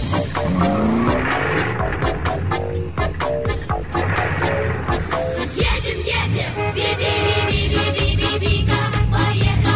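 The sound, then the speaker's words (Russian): Car engines roar and rev loudly for the whole stretch, pitch rising and falling, with screeching tire squeals cutting through and no voices. “Мы в машины дружно сели, и моторы заревели, и за окошечко глядим, за дорогою следим.”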